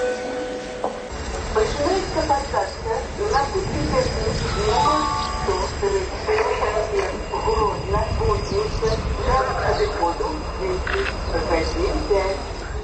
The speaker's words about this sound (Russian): А тым часам абвяшчаюць пасадку на цягнік да кузніцы. Бачу, што ў вагонах сёння будзе шмат вольнага месца.